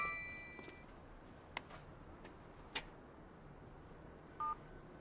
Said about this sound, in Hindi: क्योंकि हमेशा हल्की सी घंटी बजाता है, फिर चाबी से दरवाजा खोल के अंदर आ जाता है।